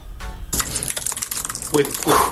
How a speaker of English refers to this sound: With fire typing going on. Chill out. Dude, I feel bad for your keyboard. Like, you don't have to do that to the keys.